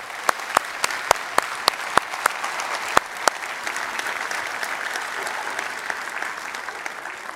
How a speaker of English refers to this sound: Let's give our kids a nice round of applause.